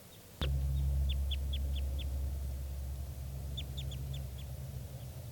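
type 2 bird calls

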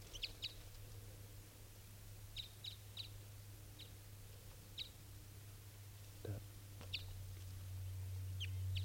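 female bird calling

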